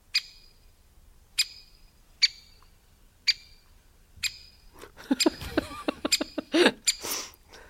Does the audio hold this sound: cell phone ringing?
no